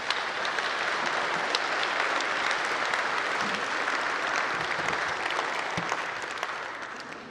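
A crowd applauds steadily, a dense wash of many hands clapping at a constant loudness for several seconds before tapering off slightly at the end, with no voices standing out.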